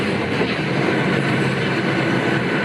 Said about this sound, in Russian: Поезд доставит в Любино не только многочисленных паломников, но и святыню – икону царя-страстотерпца Николая II.